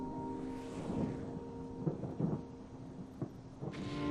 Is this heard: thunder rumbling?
yes